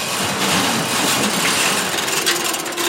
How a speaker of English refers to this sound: This metal garage door opens into 2,000 square feet of empty space. This is great because the UPS truck could just, come up here.